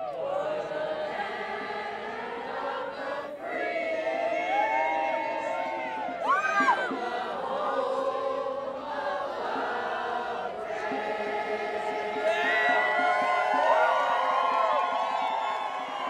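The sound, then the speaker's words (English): A dense crowd of protesters opposing a Trump rally chants and sings together, loud and unbroken for the whole stretch, with occasional shouts and rising calls cutting above the mass of sound. “Some people squeezed past the three contracted security guards to actually talk to protesters, but their dialogue was quickly drowned out by chanting and oppositional singing.”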